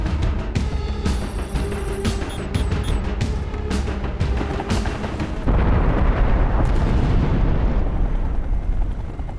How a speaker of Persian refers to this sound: وای نه، مرکزی انفجار در جنوب استپلس سنتر داریم. تیمای آتش نشانی و نجات رو اعزام کنیم.